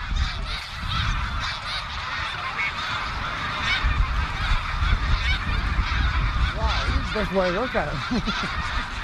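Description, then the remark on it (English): A huge flock of thousands of snow geese honks in a dense, continuous clamor, with a low rushing roar of wings underneath as they rise together in the cold, loud. “when the birds rose up, probably because of that hawk, so did he.”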